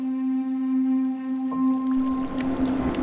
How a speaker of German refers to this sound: In der Brunnenstube hört man die Pumpen und das Gluckern des Wassers, das durch ein oberarmdickes Rohr direkt in die Brauerei fließt.